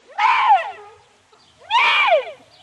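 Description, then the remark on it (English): Two loud, wavering bleats from a deer call blown on a musical pipe deep among maple trees in the Smoky Mountains, each rising then sliding down in pitch, separated by a short pause. No voices are present. “Well, they say he went deep among the maple trees before he took out his pipe and made the noise of a deer.”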